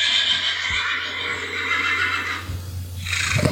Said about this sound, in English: Is there a horse? I didn't see a horse. You heard something. Look out the window. Do I see a horse? There's a black coach that's sitting right in front of the house with four horses tethered to it.